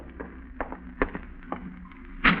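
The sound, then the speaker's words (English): A handful of sharp, hollow knocks at a door land at uneven intervals over a low background hum, the final knock noticeably louder and heavier than the rest. “An hour later, you're startled by a knock at your door.”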